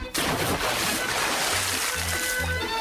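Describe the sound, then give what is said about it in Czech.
A man throws a large stone into a well: a sudden heavy splash into the water, followed by a few seconds of churning, sloshing water that stays loud throughout. “Muž ubaci veliki kamen u bunar i voda bućnu.”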